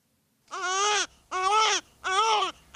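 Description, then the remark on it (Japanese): A newborn baby boy cries in three loud, wailing bursts separated by brief gaps for breath. The cry is clear, with no other voices. “生まれた俺の息子、ありがとう…、元気な赤ん坊を産んでくれて。”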